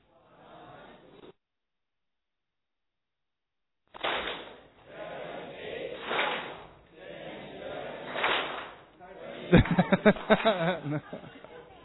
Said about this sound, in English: No, it's clapping. One is not a multiple of three, right? It's not ending three.